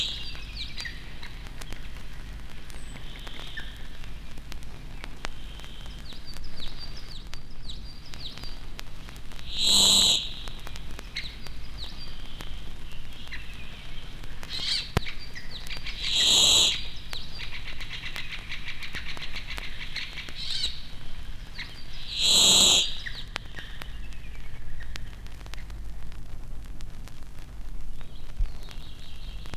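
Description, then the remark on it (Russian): Warbler song from a fixed singing spot among two or three trees at the edge of a spruce forest: three short, bright, high-pitched phrases ring out about six seconds apart over a steady background hiss, with no voices. “Голосистые пеночки – место для песен всегда постоянно.”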